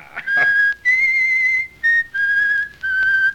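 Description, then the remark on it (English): A man whistles a tune, clear and fairly loud, in five sustained notes with short gaps between them and no talking. “Oh, I can't stand that whistling”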